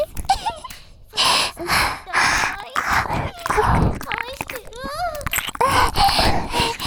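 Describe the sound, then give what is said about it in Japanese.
A man moans loudly during sex in a series of drawn-out, wavering vocal bursts, intense, with brief breathy gasps between them across the whole stretch. “パパったらすごい喘ぎ声”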